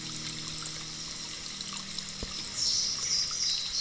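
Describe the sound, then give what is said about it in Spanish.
Steady rushing sea water fills the scene, an even wash of surf that swells a little louder toward the end. No one speaks. “Y vamos a respirar ese mar que está enfrente de nosotros.”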